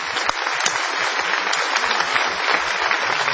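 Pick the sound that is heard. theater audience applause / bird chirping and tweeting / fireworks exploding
theater audience applause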